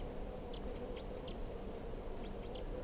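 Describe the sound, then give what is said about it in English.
Faint, short high-pitched calls of a wild bird perched just above a bird's cage, about six chirps in two small clusters, over a steady low background hiss and rumble. No one speaks. “It's recording the birds here.”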